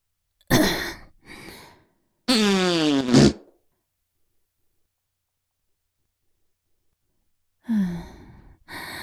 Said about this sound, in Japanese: お前のために昨日からうんちをしないようにしていたから、だいぶガスが溜まっているわね。お腹が張って、屁がいっぱい出るわ。